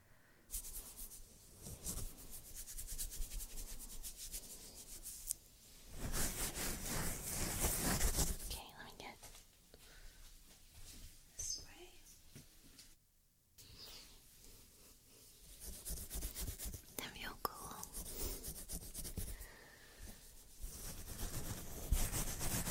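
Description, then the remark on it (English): Fingers scratch through hair on a scalp in an ASMR head and scalp massage roleplay video, in crackly, rustling bursts that swell and fade, with soft whispering in the quieter stretches between them. “So it's essentially her scratching her scalp.”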